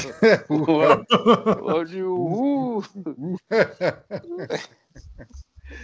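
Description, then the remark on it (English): A person imitates a barking dog with a rapid series of loud, voiced woofs and yelps, mixed with bits of chuckling, ending in a few quieter bursts. “Are you the guy who let the dogs out?”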